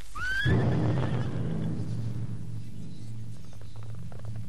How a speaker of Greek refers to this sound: Το άλογο. Έσπασε το λουρί. Έρχεται, τ' άλογο! Παναθεμάτο, θα μας προδώσει!